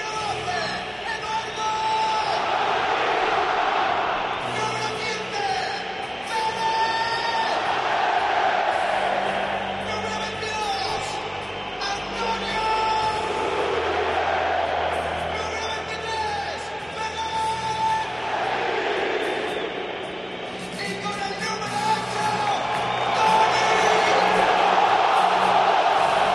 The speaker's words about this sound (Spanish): Es la estrella ahora mismo, ¿eh? Sí. Es la estrella. Aplauden hasta los alemanes. Bueno, saben gritar también los españoles.